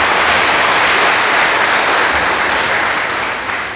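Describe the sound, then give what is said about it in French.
A crowd at a university in Cameroon applauds a speaker's intervention, a dense wash of many hands clapping at once, loud and sustained for several seconds before easing off slightly at the end. No one speaks over it. “Est-ce qu'on peut encore applaudir pour sa manifestation?”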